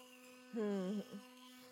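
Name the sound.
electric toothbrush running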